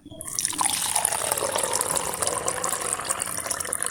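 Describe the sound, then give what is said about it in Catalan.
Freshly made coffee from an Italian moka pot being poured in a steady, continuous stream, a bright splashing hiss that starts abruptly and holds at an even level for several seconds, with no voices. “M'acabo de fer un cafè.”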